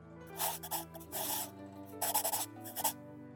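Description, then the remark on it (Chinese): A pen scratches across paper in a few quick bursts of strokes as a woman writes in a diary, fairly clear, with a soft steady tonal hum underneath and no voices. “让我来写下来啊。”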